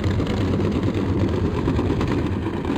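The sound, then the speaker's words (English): A steady, low underwater rumble of ship traffic from several shipping lanes, a dense continuous drone with no distinct passes or pauses, like engines blending into one constant background hum. “Sometimes it's really hard to be like, oh, that ship traffic noise, because it's just general background from like several shipping lanes.”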